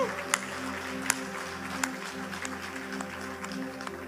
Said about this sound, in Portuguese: Acho que dá para você dar um aplauso.